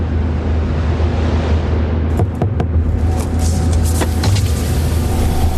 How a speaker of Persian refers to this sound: میشه موتور ماشین رو خاموش کنی؟